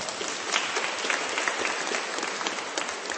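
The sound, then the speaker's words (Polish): Steady applause from an audience welcoming a group from the parish of St. Stanislaus, bishop and martyr, in Górecko fills the whole moment, a dense wash of many hands clapping, even in loudness with no pauses. “Brawa!”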